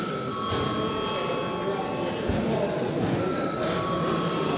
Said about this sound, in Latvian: Tas bija mūsu šīs dienas sēdes pēdējais darbkārtību jautājums, tātad lūdzu zvanu.